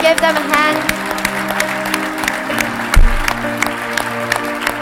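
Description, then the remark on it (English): An audience claps steadily throughout, applauding people ready to pray with those who come forward, a dense patter of many hands over a sustained musical drone, with a low thump near the middle. “Est-ce qu'on peut les applaudir bien fort?”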